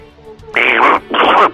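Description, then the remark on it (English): Two loud, nasal duck quacks in quick succession, each drawn out for about half a second, apparently a person's voice imitating a duck. “Push the duck a little more.”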